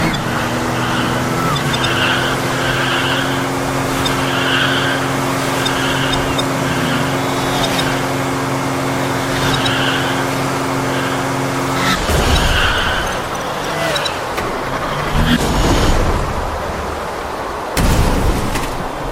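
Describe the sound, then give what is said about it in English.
A racing video game car engine drones steadily with a sustained tonal hum, then bursts of crashing, skidding noise break in near the end as the player's car gets hit, loud with no talking. “I just got hit, so I had to start the car.”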